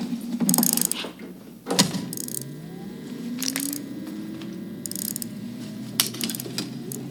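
A wind-up toy car, wound up and released, whirs along with a steady mechanical buzz, its gears clicking and rattling in bursts every second or so, with a faint rising whine as it runs.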